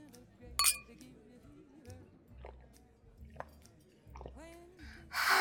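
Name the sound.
glasses clinking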